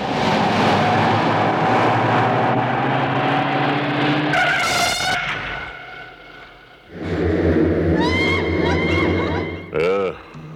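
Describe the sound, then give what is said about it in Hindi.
A car engine drones loudly, then a sharp tire screech as the car brakes to a halt because a cat crossed the road, before the engine revs up again. “गाड़ी क्यों रोकी?”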